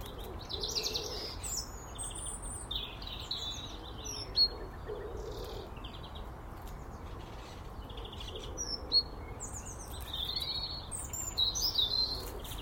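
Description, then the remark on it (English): Blackbird calls, from a blackbird raking through frosty leaves, mingle with other small birds in woodland: scattered high, sharp chirps and short phrases over a steady low rumble of background noise, with no one speaking. “This is Blackbird, you might hear down to my right slightly.”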